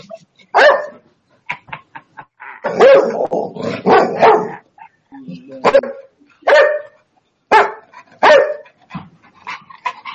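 A dog barks repeatedly, sharp yaps in irregular bursts with a few whiny, drawn-out yelps mixed in, loud and agitated throughout.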